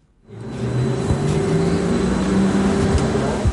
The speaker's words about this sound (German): auf so einer Testfahrt mit einem grossen weiss-blauen Doppelgelenkbus mit dabei gewesen